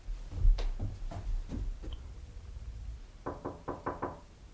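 clock ticking

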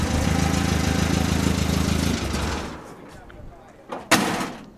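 race car engine revving

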